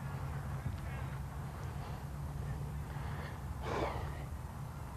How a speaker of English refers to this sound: you're gonna gather your power and you're gonna breathe in